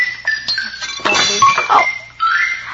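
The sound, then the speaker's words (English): Dishes and cutlery clink and clatter as they are cleared up after dinner, with a busy burst of rattling in the middle and a few lighter taps around it. No one speaks. “I'd better clear these dishes.”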